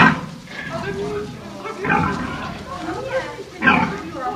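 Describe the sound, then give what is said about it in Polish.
Złotnicka spotted sows and piglets grunt and squeal in a noisy pen on a farm in Sieroszewice commune, Ostrów county, Poland, several animals with overlapping snorts and louder bursts, while a person's voice is faintly mixed in. “Główny dochód gospodarstwa to są te świnie właśnie, nie?”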